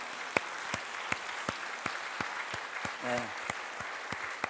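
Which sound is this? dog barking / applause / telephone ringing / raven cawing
applause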